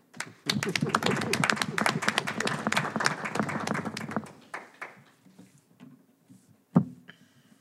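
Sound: audience clapping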